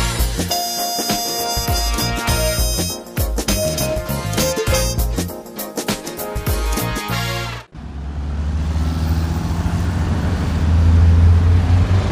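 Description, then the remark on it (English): A short burst of music cuts off abruptly to street traffic, where the six o'clock bus rumbles past, its low engine roar swelling louder toward the end. “There is the bus. We aren't going to make it.”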